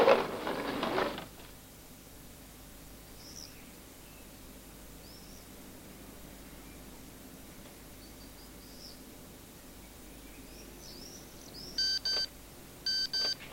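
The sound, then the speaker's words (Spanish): A mobile phone, taken from a bedside table, gives two short, bright electronic beeps as it is switched on after a quiet stretch, with faint birdsong in the background and no one speaking. “coge el móvil de la mesilla de noche y lo conecta.”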